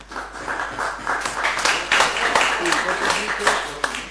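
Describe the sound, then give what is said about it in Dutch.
Audience applause at a Dutch municipal council meeting, greeting the unanimous appointment of a new council clerk: many hands clapping in a dense, steady patter that holds for about four seconds at moderate loudness, with a few sharper claps and faint voices mixed in. “Nou, dat applaus dat gaat zo dadelijk weer door, maar daar ga ik even voor staan.”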